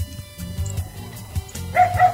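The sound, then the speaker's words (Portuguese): A small dog barks in quick, yappy bursts in an audio message, fairly loud, with high-pitched yips and a whiny edge between barks over a couple of seconds. “Cachorrinho latino, vamos ver o outro.”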